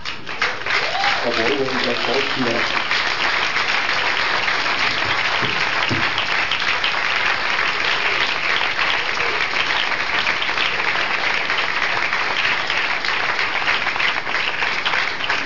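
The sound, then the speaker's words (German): Sustained audience applause fills the whole stretch, a dense, steady patter of many hands clapping at an even volume, with a brief voice audible near the start. “Ja, und noch mal ein extra Applaus für unsere beiden freiwilligen Schauspielerinnen”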